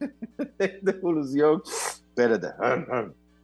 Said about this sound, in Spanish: Ay, voy a estornudar.